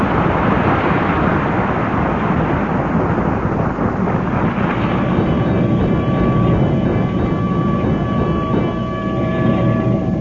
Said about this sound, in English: Hey, Kramer, up here, boy. I'm riding the fire engine, Kramer.